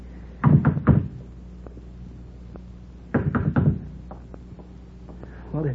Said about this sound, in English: What do we just go up to the door or what? What else? Go ahead, knock.